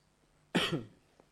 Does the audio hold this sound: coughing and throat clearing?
yes